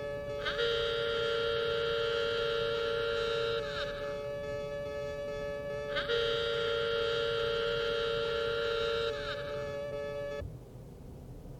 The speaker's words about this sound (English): If the excursion hooter ever blows, repeat after me, our Father, who art in heaven.